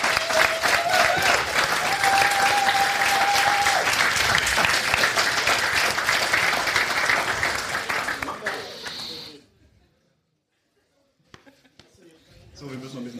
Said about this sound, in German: Einen herzlichen Applaus von den zwei, von den drei von Smalltalk.